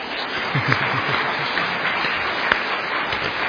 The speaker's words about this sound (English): If you feel like clapping, you can clap, but do it properly.